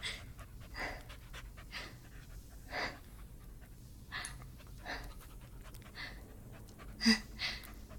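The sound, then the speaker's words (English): A large dog pants steadily, quick rhythmic breaths repeating over several seconds, with a couple of louder huffs near the end and no talking. “Big dog.”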